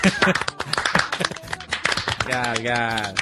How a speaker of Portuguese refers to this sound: Obrigado, aplausos pra mim aí. 2 pessoas aplaudindo.